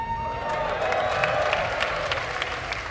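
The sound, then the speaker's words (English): A large live audience of the general public applauding steadily at the Left Field, its biggest crowd so far this year, dense clapping with scattered cheers filling the space continuously at a fairly loud, even level throughout. “This is the biggest crowd in the left field so far this year.”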